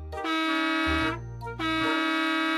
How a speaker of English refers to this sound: But he did, and the bus driver fell on his horn laughing. Honk honk, blared the horn.